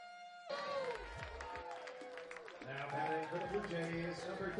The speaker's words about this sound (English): A nice Wednesday night crowd is all stretched out at TD Ballpark as the Jays trail 4-2 going to the bottom of the seventh.